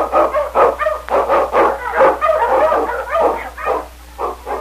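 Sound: eskimo lead dog barking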